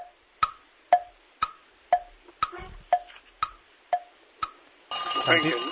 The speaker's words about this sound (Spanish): Sí, lo ha dicho sobre la bocina. Yo creo que lo ha dicho dentro. Lo ha dicho bien, está dentro de tiempo, sí.